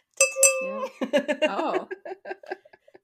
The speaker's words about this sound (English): Clink as I clink my necklace. Oh, was that what that was? Apparently.